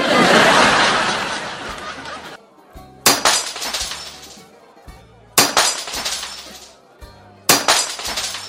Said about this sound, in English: How has the plate smashing started? No.